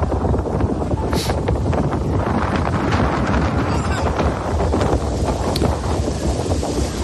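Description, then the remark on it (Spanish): Strong wind buffets the microphone in a constant, loud roar, mixed with the rumble of the powerful engine of a black rigid inflatable speedboat approaching at full speed against the tide, and no speech. “Al fondo, a pesar del fuerte viento y de la marea, se acerca a toda velocidad una lancha. Se trata de una embarcación semirrígida, negra, de potente motor, con la posibilidad de llegar a alcanzar velocidades superiores a los 100 kilómetros hora.”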